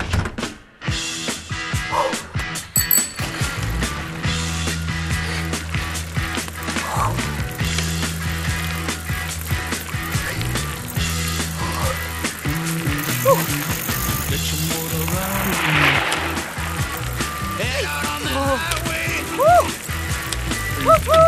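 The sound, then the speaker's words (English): A bicycle rolls along steadily, its freewheel ratchet ticking in rapid clicks over a low continuous rumble of tyres and mechanism, with faint outdoor noise throughout. “And I'm borrowing your bike.”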